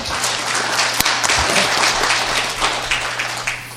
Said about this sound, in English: Well, there's a lot of great comments and words here, and I hear a lot of applause, and I hope we get to the point of action.